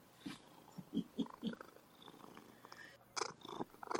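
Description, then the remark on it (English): A female cat purrs right up against the microphone, a rumbling purr with pulsing bursts and a few louder swells, no talking over it. “Oh my God, she's like purring right in the microphone.”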